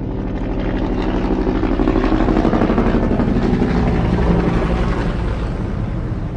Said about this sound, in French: Le balai des hélicoptères de l'OTAN dans le ciel de Kaboul nous rappelle que plus de 17 000 soldats, en majorité américains, sont encore déployés pour assister les forces de sécurité afghanes.